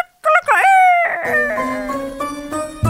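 A rooster crows once, loud, with a long wavering call that rises and then holds steady before cutting off. No one speaks over it.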